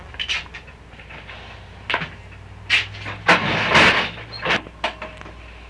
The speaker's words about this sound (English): Do you want me to shut that door? Yeah, I'll get it and shut it.